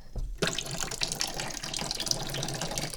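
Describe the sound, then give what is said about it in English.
A hot water faucet in a kitchen turns on abruptly and runs steadily into a sink to fill a tea kettle, a continuous splashing hiss with a thin, uneven flow from low water pressure that lasts throughout. “So I grab the tea water boiling vessel, I bring it over here to the sink, and I crank the hot water on like this.”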